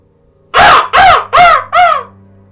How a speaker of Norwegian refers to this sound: Og en enkel lyd bryter stillheten. Lyden av en kråke.